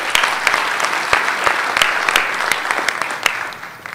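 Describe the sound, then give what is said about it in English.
An audience claps steadily for several seconds at the end of a conference session on Adaptive Cards as questions begin, a dense wash of many hands with sharp individual claps poking through, fairly loud and fading slightly toward the end, with no talking. “Can't believe they're applauding for my question already.”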